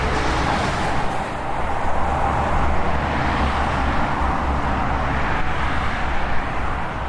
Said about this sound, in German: stehen wir noch ein bisschen dichter an den Elbbrücken. Wir hören das dumpfe Grollen vom Hafen und von den Verkehrsstraßen hierher rüber.